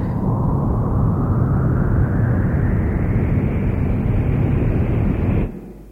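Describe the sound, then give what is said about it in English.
A loud, steady spaceship rocket-engine roar during launch, its pitch creeping slowly upward, then cutting off abruptly as the motors are cut before reaching escape velocity, leaving only a low rumble. No one speaks. “They've cut the motors. We haven't reached escape velocity.”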